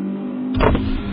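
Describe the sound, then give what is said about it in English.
A steady low drone from inside a moving car, with a brief whooshing, motorized swell about halfway through before the even hum settles back in. No one speaks. “You're driving in your car.”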